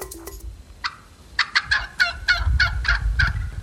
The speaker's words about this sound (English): In early Minnesota history, these sounds were common. Turkeys clucking and calling.